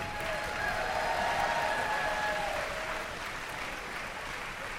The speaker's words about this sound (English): Thank you. Thank you. Now, judging by your applause, I know you appreciated all the costumes, but it is in fact the brass players that will get the bag of baby carrots.